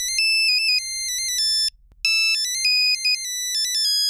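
A shrill electronic ringtone from an old flip phone plays a bright, beeping melody of stepped tones, pausing briefly before the jingle repeats, loud with no voices.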